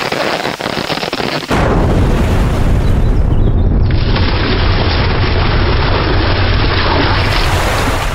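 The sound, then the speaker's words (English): A steady hiss is cut by a sudden, massive explosion of an untapped maple tree, which is vaporized, leaving a shattered stump; the blast bursts into a long, roaring rush of deep rumbling noise, staying loud until the end. No one speaks. “The tree is vaporized. Only a shattered stump remains.”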